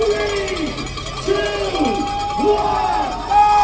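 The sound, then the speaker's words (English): A crowd of spectators at a bike race in Boston cheers and shouts steadily, with clanging cowbells and rising and falling whoops and whistles layered over the constant roar. “And in this Boston crowd, fans know a lot about him.”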